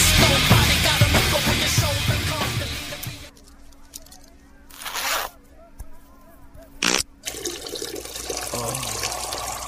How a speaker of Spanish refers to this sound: Jake, en su estado de euforia, saca su miembro y empieza a soltar el agua servida sobre las mujeres.